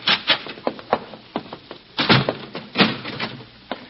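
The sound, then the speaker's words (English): A wooden door is bolted with a run of irregular clunks and knocks, several sharp hits mixed with softer scraping rattles over a few seconds, and no voices. “Come, I'll bolt the door after you.”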